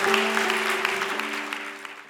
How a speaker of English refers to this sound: You guys are amazing. That was really special. Can we give them a great round of applause? Thank you, guys.